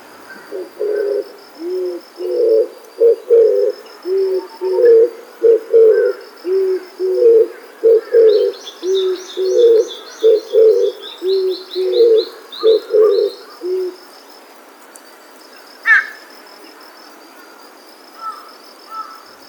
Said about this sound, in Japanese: 今月は本州などにも生息していますが、沖縄では姿や鳴き声が違う鳥たちを紹介しています。のんびりとした鳴き声は琉球キジバトのさえずりです。